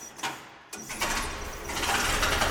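The engine of a 1918 Liberty truck, a World War I artifact on exhibition and still in operating condition, cranks with a few mechanical clicks, then catches and settles into a rough, rumbling idle that grows steadily louder, with no voices.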